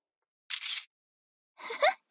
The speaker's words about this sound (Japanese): めっちゃシャッター切るやん。しかも近っ。